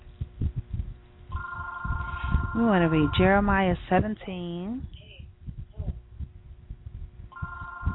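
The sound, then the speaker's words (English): A mobile phone ringtone plays a bright, warbling melodic pattern over a steady electronic tone, starting again briefly near the end, while a man keeps speaking underneath, reading Jeremiah chapter 17, verse 14 during a sermon. “I'm sorry, my phone is ringing right now.”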